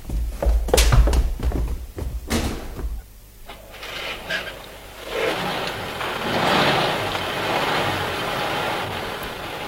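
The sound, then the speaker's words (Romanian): A car from the Ministry of War arrives, its engine rumbling while a couple of solid door thunks land in quick succession, followed by a rising, steady wash of motor and road noise. “A venit o mașină de la Ministerul de Război să ne ducă la școala politehnică.”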